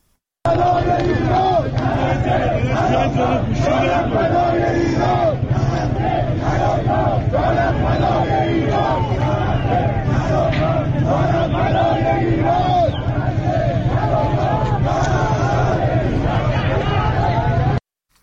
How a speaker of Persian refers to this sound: در ویدیوهای دریافتی از بازار میوه و تره‌بار تهران، معترضان شعار می‌دهند نه غزه نه لبنان، جانم فدای ایران.